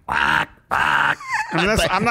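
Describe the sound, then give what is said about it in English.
A voice imitates a car horn: two loud, steady, buzzy honks separated by a brief pause, then a stretch of wavering, sliding vocal sounds. “Horns are also meant to be startling and to get your attention.”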